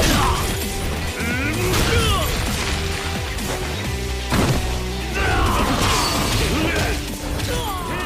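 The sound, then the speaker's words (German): A video game brawl set in 1988 Japan: loud, dense punches, smacks and crashes follow one another rapidly, with whooshes and bright cash-register rings chiming as money bursts from enemies on heavy hits, through the steady clamor of the fight. “Und hört ihr, wie bei diesen Prügeleien die Kasse klingelt?”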